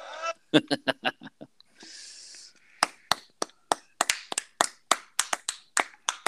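Sharp, irregular hand claps ring out steadily for several seconds, following a few brief honking, nasal tones and a short burst of hiss at the start.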